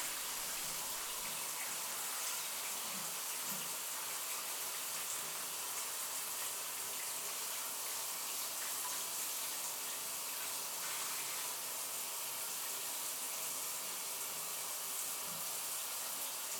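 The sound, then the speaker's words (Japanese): Steady, hissing rush of running water rinsing shampoo out of hair, continuing evenly for the whole stretch with no voices and only slight shifts in the splashing texture. “よくすすいでくよ。”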